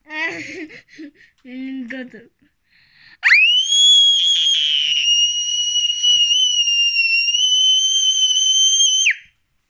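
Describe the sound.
After a few seconds of laughing and chatter, a man lets out one long, sustained high-pitched scream lasting about six seconds, imitating how he screamed when his leg broke. He holds it loud and steady before it cuts off.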